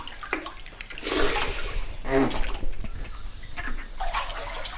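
A person wades into clear, shallow water with a little lime on the surface, making irregular sloshing splashes and swishes that come in bursts, steady moderate loudness, no voices.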